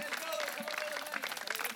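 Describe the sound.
An audience applauds steadily, a dense wash of many hands clapping at moderate volume, with a sustained tone and murmuring voices mixed in throughout.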